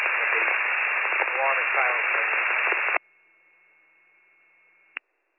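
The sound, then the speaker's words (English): Loud, tinny radio static fills the first three seconds with a muffled voice buried beneath it, then drops to a faint hiss and ends with a sharp squelch click. “Air raid is kind of static.”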